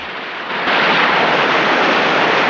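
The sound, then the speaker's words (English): Loud, continuous rushing white water roars, a broad foaming, hissing surge that swells and intensifies after the first half second as it surges across rocks and through gullies. “Foaming white water surges across rocks and through gullies.”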